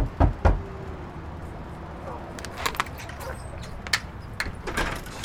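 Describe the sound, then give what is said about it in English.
Two firm knocks on a door land close together at the start, followed by quiet room tone with scattered light clicks and shuffling sounds. “You can come in and close the door.”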